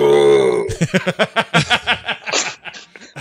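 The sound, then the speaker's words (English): A man lets out a loud, drawn-out burp, followed immediately by a run of rapid, breathy, laugh-like bursts in a steady rhythm, all close to the microphone. “Burping man. Here it is.”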